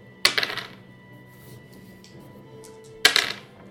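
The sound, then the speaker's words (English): Two separate bursts of dice clattering across a hard tabletop, each a sharp hit followed by a short rattling tumble, about three seconds apart with quiet room tone between. “Oh, what is wrong with that dice?”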